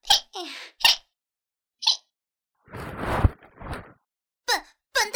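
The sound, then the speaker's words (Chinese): A string of short, sharp hiccups brought on by goosebumps, at irregular intervals, some squeaky and high-pitched, a couple longer and breathier, with silence between them and no talking. “什么叫做连打嗝声音都那么可爱？”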